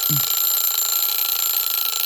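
A timer buzzer blares continuously, a harsh, steady electronic tone that holds at constant loudness for about two seconds with no speech over it.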